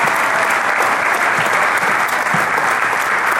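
Steady, dense applause from a large crowd at a United Socialist Party of Venezuela event in the municipality of Naguanagua, greeting the party's newly designated youth representative; a continuous wash of many hands clapping at constant loudness with no talking over it.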